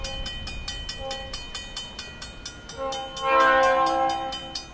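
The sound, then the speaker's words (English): A train rolls past a railroad crossing on the eastern edge of the central business district of Philo, Illinois, with a rapid, regular clatter of wheels, then its horn blares loudly and steadily over the rumble for the last couple of seconds. “Say, just above the railroad crossing, about 200 feet up, on the eastern edge of the central business district of Philo, Illinois.”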